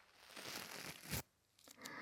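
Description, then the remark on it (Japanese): Food being torn apart by hand: a drawn-out, fibrous ripping that swells over about a second, ends in a sharp louder snap, then a few softer crinkly tears follow. No voices. “さて、ちぎるよ。”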